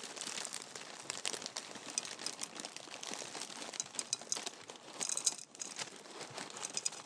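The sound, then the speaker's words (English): A plastic cereal pouch from a family-size pack crinkles and rustles steadily for several seconds, with bright, crackly bursts and a brief pause before more handling as the cereal pours out into a bowl for breakfast. No one speaks. “Okay, we have to extract one bag here, and without making too much of a mess, pour it in here.”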